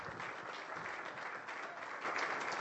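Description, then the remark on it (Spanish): A crowd breaks into sustained applause, dense overlapping claps at steady volume swelling slightly toward the end, with no voices standing out. The applause is given to the Lord at a night religious service, for a person reconciling with God. “Vamos a darle un aplauso al Señor y a esta vida.”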